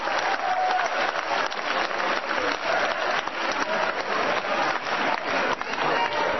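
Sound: audience clapping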